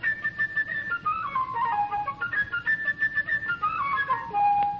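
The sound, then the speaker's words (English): A flute plays the theme for the busy little bird Sasha, a quick, chirping melody in its high register, with bright, pure notes darting up and down and trilling before settling on a held tone at the end. “For the busy little bird, whose name is Sasha, we'll hear a flute way up high.”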